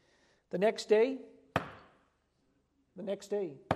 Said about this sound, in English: And he knocked.